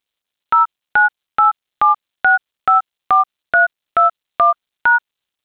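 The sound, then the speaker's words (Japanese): A callback phone number, starting with the area code, is keyed in on a telephone keypad for an automated phone system: eleven short, clear dual-tone beeps pressed at a steady, even pace, one after another, with silence between them and no voices. “次に、折り返し先の電話番号を市外局番からご入力いただき、最後にシャープを押してください。”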